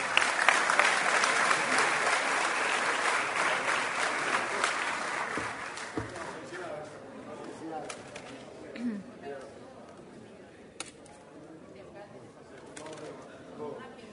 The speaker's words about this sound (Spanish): Un aplauso, por favor.